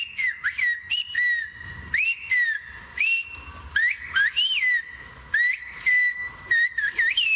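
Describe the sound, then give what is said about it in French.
The Spanish sentence 'Esta práctica está en armonía con la naturaleza' whistled in Silbo, the whistled language of the Canary Islands: a loud, piercing human whistle gliding up and down in pitch through a quick series of phrase-like bursts, with no one speaking. “Je vous propose d'écouter une autre phrase sifflée en silbo.”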